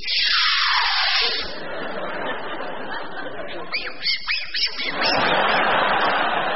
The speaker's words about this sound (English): Polishing the table with sooty there.